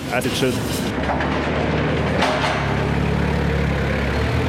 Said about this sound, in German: Das war knapp. Um ein Haar hätte der Truckman, der quietschgelbe Gabelstapler Thor, unten in der Werkshalle übersehen.